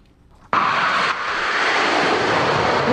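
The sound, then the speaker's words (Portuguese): The engine of a Swedish-built F-39 Gripen multirole fighter jet of the Brazilian Air Force roars in abruptly and holds steady as a loud, broad, sustained rushing blast, with a faint whine rising near the end. No one speaks. “a Força Aérea Brasileira incorporou os primeiros aviões Gripen. São caças multimissão comprados pelo Brasil da Suécia”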